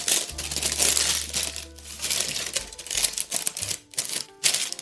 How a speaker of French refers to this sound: Donc là, je suis en train de tenir et de maintenir ma feuille avec ma main gauche dans le fond du moule et avec ma main droite, je vais faire des petites fronces sur le papier. Je le plie pour le maintenir bien sur les bords.